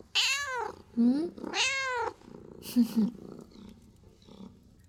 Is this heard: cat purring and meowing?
yes